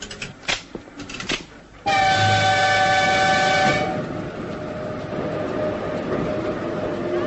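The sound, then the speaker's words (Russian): An express passenger train from Krasnoyarsk to Moscow sounds a loud, sustained horn blast lasting about two seconds after a few sharp clanks, then a steady mechanical rumble and hum carry on as it departs. “Скорый поезд Красноярск-Москва. Все в ажуре. Сейчас поедем.”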